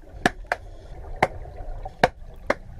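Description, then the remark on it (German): A wild grey seal claps its flippers underwater: five sharp, percussive cracks in an uneven rhythm, two quick pairs and one single, standing out loudly over a low, murky rumble. “Das ist ein wilder, grauer Seehund, der so klatscht.”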